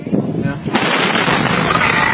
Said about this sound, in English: Dramatic images of the massive explosion are seared into the collective psyche in the city of West, a town struggling to bounce back from a horrifying and deadly blast.